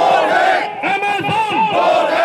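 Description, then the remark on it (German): A loud crowd of protesting traders at Connaught Place, Delhi's central square, shouts together in a dense, continuous roar, voices rising and overlapping in chanted bursts with no single speaker standing out. “Doch an Delis zentralem Platz, dem Connaught Place, ist der Protest dennoch laut.”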